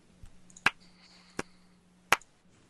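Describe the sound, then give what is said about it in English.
Three sharp, isolated claps ring out roughly two-thirds of a second apart, each a quick crisp crack over a faint steady background hum, with no voices. “Are you clapping for yourself?”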